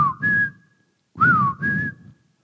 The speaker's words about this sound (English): We got a family whistle.